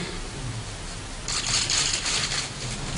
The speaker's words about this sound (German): Wir hören Schweigen, Schniefen und mühsam gewahrte Fassung, nur unterbrochen vom gnadenlosen Klicken der Fotoapparate.